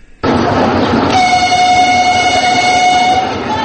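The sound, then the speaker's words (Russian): A loud passenger train horn blares in one long sustained blast over the rumble of a train at Sukhumi railway station in Abkhazia, as regular passenger rail service between Moscow and Sukhumi resumes, with no voices present. “Без малого 4 месяца на Сухумском вокзале не слышали гудков пассажирских поездов.”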